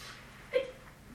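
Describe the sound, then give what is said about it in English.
A single short sneeze bursts out midway through, brief and moderately loud against a quiet room tone, with no talking around it. “Did I tell you guys why it's always important to wish someone God bless you when they sneeze?”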